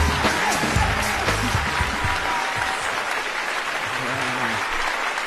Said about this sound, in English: Oh, listen to that applause.